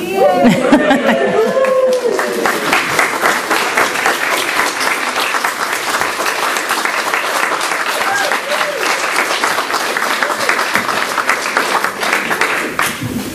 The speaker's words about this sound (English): Should we have one more cheer before we say the benediction?